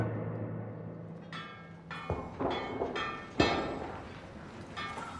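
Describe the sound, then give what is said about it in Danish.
A blacksmith hammers metal in a handful of irregular, ringing blows. Each strike gives a sharp clang with a bright metallic tone that lingers, and a couple of the hits land harder than the rest. “Så vi har smeden, han står derude og banker løs.”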